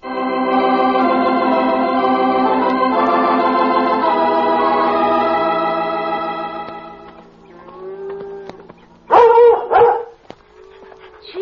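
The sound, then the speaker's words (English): Sustained orchestral music swells and fades, then a big German shepherd dog lets out a short burst of loud, deep barks, followed by a softer whimpering sound. “Look, there's a big strange dog in with the cattle.”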